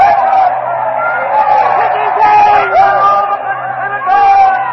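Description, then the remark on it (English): A loud, frenzied Roman crowd shouts and roars continuously as Mark Antony uncovers the body of Caesar, calling for vengeance against the conspirators, many voices overlapping in an agitated din with rising yells and cries throughout. “The crowd is in a frenzy.”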